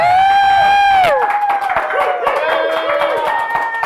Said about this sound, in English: Thunderous applause!